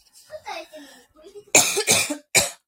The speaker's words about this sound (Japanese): まあ、ということでごめんなさい。めっちゃ咳しちゃったんだけど。